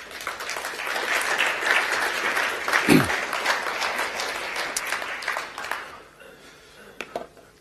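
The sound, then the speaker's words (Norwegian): A church audience breaks into steady, dense applause for one another that holds for about six seconds, with one brief low thump in the middle, before the clapping thins out and fades to near silence. “Alle de viktigste personene sitter der og hører meg tale akkurat nå, så vi skal få gi en god applaus for hverandre.”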